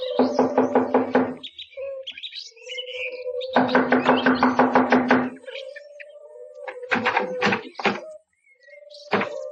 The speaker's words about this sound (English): Here we are. I'll knock on the door.